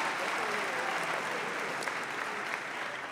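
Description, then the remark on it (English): Steady audience applause, a dense wash of many hands clapping at an even, sustained level throughout, with no pauses or swells and no voices standing out. “Yeah, no, you don't need to applaud.”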